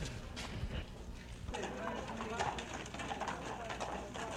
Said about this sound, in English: And the horses and the carriage are now returning.